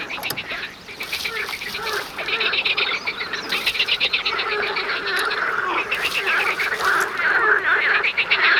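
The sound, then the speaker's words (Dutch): A loud, dense chorus of male frogs croaking together among tall reeds, a continuous overlapping racket of rapid, rhythmic calls that fills the whole clip, steady with occasional surges. “Met dit harde gekwaak proberen meer kikkermannetjes namelijk vrouwtjes te lokken.”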